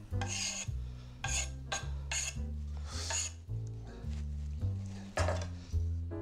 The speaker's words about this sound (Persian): برای مزه بهتر جوز هندی رنده شده اضافه میکنه. فکر کنم همین کافیه. تقریبا معادل یک چهارم قاشق چای خوری.